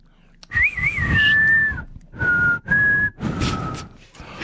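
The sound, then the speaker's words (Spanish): A person whistles a short tune, announced as a concerto in F minor, in several sustained phrases, the first with a wavering trill, separated by brief pauses, fairly loud against a breathy, noisy background. “Concierto en fa menor, chiflido, sangre azteca.”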